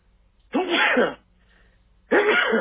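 Two loud sneezes about a second and a half apart, each a sharp burst with a breathy, voiced tail, against a quiet hum.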